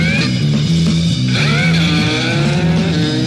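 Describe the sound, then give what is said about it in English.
Steady, loud vehicle engine roar with shifting tonal hums as traffic rumbles through an underground tunnel, continuous with no voices. “Traffic is moving underground and then it's coming up again. As if they're going under a tunnel of sort.”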